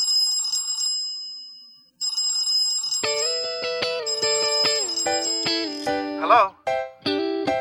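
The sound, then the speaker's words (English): A shrill, high-pitched telephone ring trills in two rapid bursts, then gives way to a bright electronic melody of stepping tones, loud throughout. “I'm sorry I haven't been picking up the phone lately.”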